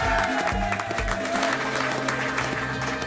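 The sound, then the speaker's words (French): Sustained, dense audience applause welcoming a game-show contestant fills all three seconds at a steady loud level, with a rhythmic musical jingle and low thumping beats running underneath. “Mesdames, messieurs, des applaudissements nourris”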